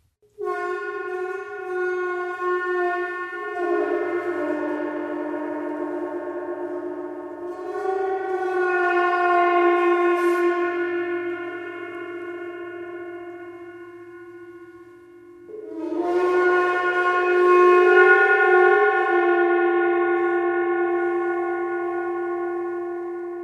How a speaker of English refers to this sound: this is a friction attack on a medium-sized gong.